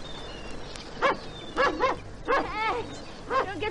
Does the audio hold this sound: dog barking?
yes